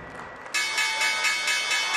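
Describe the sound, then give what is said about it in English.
The loud, continuous electric closing bell on Wall Street starts abruptly about halfway through and rings steadily to the end, with a faint murmur of voices and room noise before it. It ends a trading day on which the market fell nearly 8% amid an oil price war and coronavirus fears. “The closing bell ended a bloodbath on Wall Street.”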